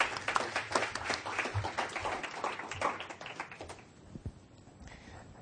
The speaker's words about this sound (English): And if you will, please welcome them with a round of applause.